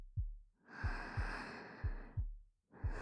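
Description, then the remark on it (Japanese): A muffled heartbeat thumps in paired lub-dub beats, about one per second, under a soft rushing breath-like noise that swells and fades. “私のドキドキ伝わってるかな。”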